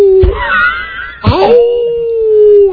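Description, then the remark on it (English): A person imitates a howl in a high falsetto voice: two rising, wavering calls, the second settling into a long, steady wail that holds loud until the end. “when you guys do falsetto voices, I have to ask, Buzz, can you howl?”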